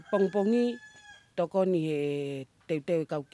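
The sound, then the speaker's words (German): A rooster crows loudly, three drawn-out calls in a row, the middle one longest, with short pauses between them. “Morgens füttere ich die Hühner, dann ernte ich das Wichtigste fürs Essen.”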